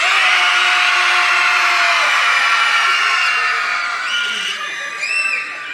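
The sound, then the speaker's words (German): An audience screams as loud as it can on a signal, measured at 110 decibels, a dense, sustained roar of many voices that stays loud for several seconds before easing slightly, with a few high whoops rising near the end. “Jetzt schreit mal so laut ihr könnt.”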